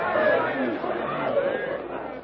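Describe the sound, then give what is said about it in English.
An angry mob shouts and clamors at once, yelling and gesticulating as it crowds around four captives: a dense, continuous wall of overlapping yells that stays fairly loud throughout, with no clear words standing out. “Yelling and gesticulating savagely, the yellow-skinned mob crowds around the four captives.”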